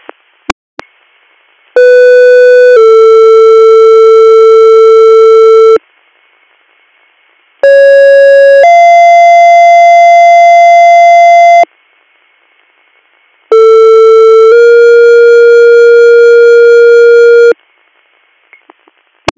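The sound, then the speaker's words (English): Three loud fire dispatch paging alerts, each a brief tone sliding into a long, steady second tone, separated by short silences, with no talking. “Valley EMS, disregard your tones.”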